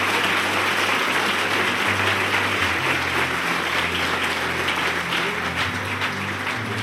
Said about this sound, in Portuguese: Você pode dar ao Senhor mais um forte aplauso pela vida deles.